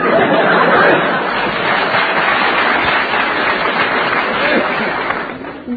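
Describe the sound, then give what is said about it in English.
A sustained wash of crowd applause mixed with laughter and chatter, steady and fairly loud for several seconds before tapering slightly at the end. “They're either applauding, hoping we are dying, or like that last one.”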